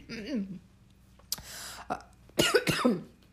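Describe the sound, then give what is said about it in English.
A person coughs several times, a few short, scattered bursts with the last two loudest and harshest, preceded by a brief throaty vocal sound. “I'm going to cough.”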